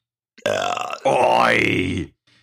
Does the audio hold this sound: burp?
yes